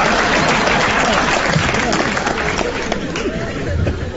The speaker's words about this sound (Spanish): ¿Qué aplauden?